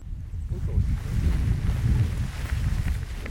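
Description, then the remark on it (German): A steady headwind of about 5 to 7 km/h at a paragliding launch roars and buffets against the microphone, a continuous low rumble with gusty swells and no voices. “Wir hatten Glück und hatten relativ schönen Gegenwind.”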